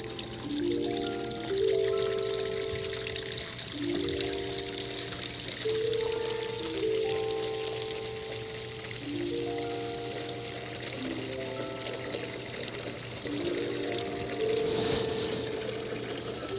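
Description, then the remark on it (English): Plain water pours steadily into a container in a kitchen for making bubbles, its pitch rising as it fills, over several successive pours in a row, fairly loud, with no one speaking. “Just some plain water for bubbles, okay?”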